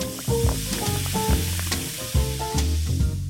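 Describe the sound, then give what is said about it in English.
Soda fizzes and crackles as it's poured over ice with a distilled non-alcoholic spirit, a steady hiss of bubbles running the whole time, with low pitched tones sounding underneath and no voices. “Coming up, a certain brand of distilled non-alcoholic spirit and soda over ice.”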